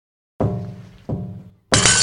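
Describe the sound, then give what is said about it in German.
Two hollow, resonant knocks on the back panel of a large wooden wardrobe standing in a niche, the panel divided in the middle, each knock ringing out briefly, followed by a sharper, brighter rattling hit that sustains to the end. No one speaks. “Die Rückwand ist in der Mitte geteilt. Stimmt. Ich klopfe mal dagegen.”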